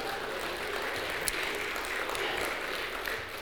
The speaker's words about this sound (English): Give him applause and say hallelujah again.